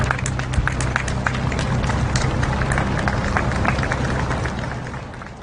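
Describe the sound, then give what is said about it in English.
Soft, steady applause from roadside crowds in the countryside and villages, including Ballater, as the seven-car cortege carrying Queen Elizabeth's body travels from Balmoral to Edinburgh, many hands clapping in a scattered patter outdoors with a low rumble beneath, easing off slightly toward the end. “Soft applause through the countryside on a slow and somber trip.”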